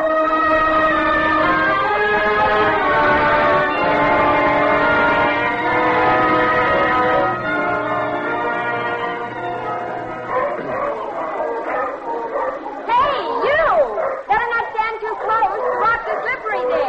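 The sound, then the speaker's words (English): Seals on the rocks bark in a loud, overlapping chorus of rough, wavering honks. Steady ringing tones sound first, and then the barking calls rise and fall in quick bursts. “Seals are making too much noise.”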